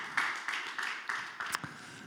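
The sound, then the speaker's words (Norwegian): An audience applauds for Jesus in a steady wash of many hands clapping, with a few sharper claps standing out over the continuous, moderately loud noise. “Ja, en ordentlig applaus til Jesus.”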